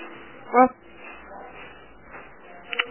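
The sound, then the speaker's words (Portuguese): A neighbours' dog gives one short, sharp bark, fairly loud, followed by a quieter yelp near the end, with a low murmur of voices in the background. “Pelo amor de Deus, tu viu o cachorro dessa gente aí, vou tacar a pele, tô te avisando.”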